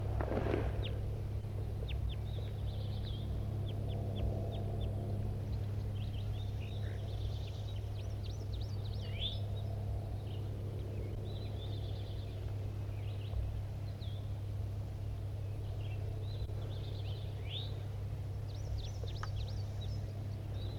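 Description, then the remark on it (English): A flock of small birds foraging in an oak tree keeps up a scattered stream of thin, high chips and twitters, fairly close, over a steady low engine-like hum. No one speaks. “I couldn't resist and I got really close now, so I might be able to get some good recordings of the flock that just flew into these. Oh, it's an oak tree and they're foraging in the oak.”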